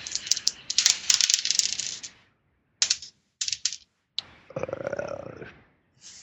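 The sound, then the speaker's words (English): Dice clatter and tumble across a hard surface in a busy rattling burst, followed by a few short separate clicks and a final softer rolling rattle. No voices. “I'm throwing in a bad space here for my dice.”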